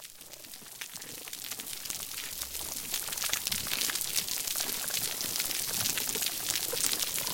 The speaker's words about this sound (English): The first thing that you hear is this constant crackling in the background. It sounds a little bit like frying bacon. And that's actually the sounds of snapping shrimp. So you hear hundreds of snapping shrimp communicating or possibly hunting